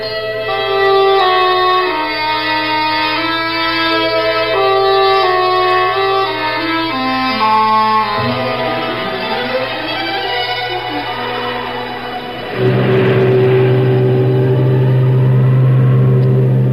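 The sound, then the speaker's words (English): A deep, droning foghorn blows during a days-long fog, heard through an open door, a long, steady low tone with wavering tones shifting pitch over it before a loud, sustained blast takes over near the end. “We heard enough of that fog on for the last 9 days without having it right here in the room with us?”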